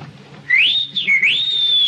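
A person whistles a clear, sliding tune, rising and dipping in pitch over about a second and a half, loud, with a low background rumble and no talking.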